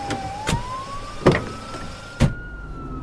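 A taxi car's gasoline internal combustion engine runs steadily, its whining tone slowly rising in pitch, while three short clunks land at irregular intervals. No one speaks.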